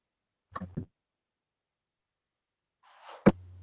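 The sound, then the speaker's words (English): A sharp sneeze bursts out near the end after a brief breathy build-up, with a couple of short sniffly noises earlier and silence in between. “I'm sneezing, so I'm quiet.”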